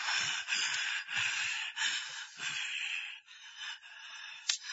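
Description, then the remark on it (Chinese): A tiger, tired after pouncing several times at a frog without catching it, crouches and pants heavily, a steady run of seven or eight harsh, raspy breaths in quick rhythm, loud, with no talking. “老虎一连猛扑几次，都没有捉到青蛙，累得蹲在一边呼哧呼哧的直喘气。”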